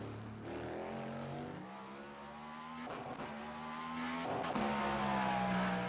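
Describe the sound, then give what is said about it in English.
A Formula Ford race car's engine drones loudly and shifts pitch as it revs through gears and sweeps past, with bursts of roaring noise and no talking. “What was that? Formula Ford.”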